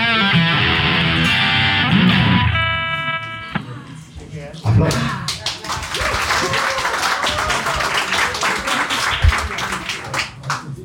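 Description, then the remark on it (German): A few seconds of tonal music end abruptly, then steady applause takes over, a dense, crackling patter of many hands clapping that continues at an even level to the end. “Applaus. Ihr habt's gehört.”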